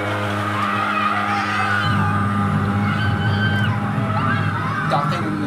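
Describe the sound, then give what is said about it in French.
A street disinfection fogging truck's motor roars steadily, a loud continuous drone with a deep hum and whining, shifting overtones that never let up. The truck disinfects the streets to kill cockroaches and mosquitoes. “Ah, ce bruit, c'est le camion qui sert à désinfecter les rues.”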